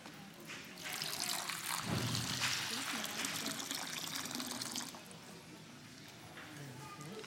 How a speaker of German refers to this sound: Jetzt, was fehlt jetzt noch hier? Ja, Wasser. Also, schütten wir das mal ein, oder?